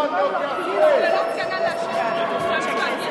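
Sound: crowd booing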